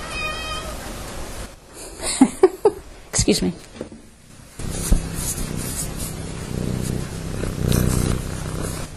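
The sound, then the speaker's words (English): A cat being petted lets out a few short meows, then settles into a steady low purr that rumbles on for several seconds, with a person briefly speaking near the start. “Had to pet the cat.”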